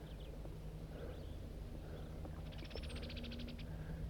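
Blackbirds call outdoors from a pine tree, mostly a quick run of short, sharp chattering notes near the end, fairly faint above a steady low rumbling background with scattered softer chirps.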